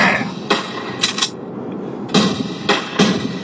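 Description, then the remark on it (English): Sharp gunshot sounds, about six, burst out irregularly over a thumping, bass-heavy rap beat played from a phone speaker, with a quick double crack near the middle. No one speaks. “Are these gunshots? Yes, of course!”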